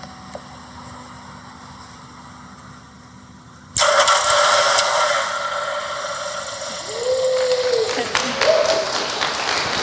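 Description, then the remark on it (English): A low steady hum, then a car engine abruptly cranks and catches at about four seconds, started remotely by a Raspberry Pi running AWS Greengrass and a Python Lambda function that switches a relay board connected to the starter motor. It settles into a loud, broad idle roar that swells again near the end, with no voices. “And this triggers a Lambda function locally on the Pi, and I wrote that in Python, and that turns on the relay board, which is connected to the starter motor, which then starts the car.”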